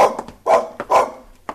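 A dog barks several times in quick, uneven bursts, two louder barks standing out, fairly loud with short gaps between them.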